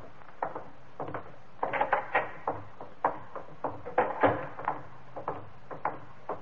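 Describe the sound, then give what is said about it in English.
A door being opened, heard as a run of irregular wooden knocks, clunks and rattles of moderate loudness, bunched in quick clusters over several seconds with no voices. “Door.”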